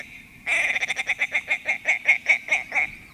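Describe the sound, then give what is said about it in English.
A male bird's chuckling call as he flies in a long arc over the tundra and across the tops of the willows: a loud, rapid run of about fourteen throaty, clucking notes that slows slightly toward the end. No one speaks. “Picture those white wings propelling that chunky, rusty body in a long arc over the tundra as he chuckles his way across the tops of the willows.”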